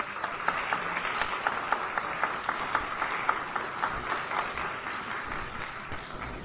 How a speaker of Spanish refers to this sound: Recibámosla con un aplauso. Bienvenida, senadora.